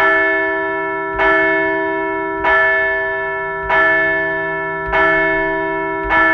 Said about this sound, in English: let's ring the bell for 6 straight wins.